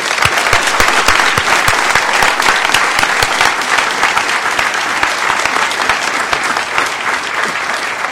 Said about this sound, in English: So I want to give a great big applause to Emmanuel and everybody at Hope, not just this year, but for the last 22 years. Great job.